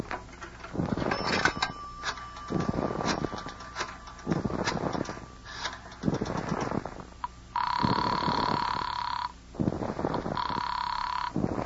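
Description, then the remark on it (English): A telephone rings in two long electronic bursts separated by a short pause, loud, following a stretch of busy clattering noise. “But other than that, it will just take a phone call.”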